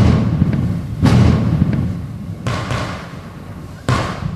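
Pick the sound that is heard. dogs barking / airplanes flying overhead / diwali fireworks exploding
diwali fireworks exploding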